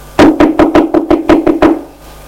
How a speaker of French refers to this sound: On a frappé à la porte.